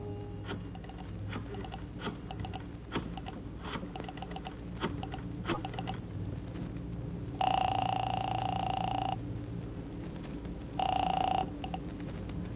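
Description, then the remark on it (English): A phone in a phone booth is dialed with a run of scattered clicks over faint background noise, then two loud electronic ring tones follow, a long one and then a shorter one. “I found a phone booth and called Marty Crane's apartment.”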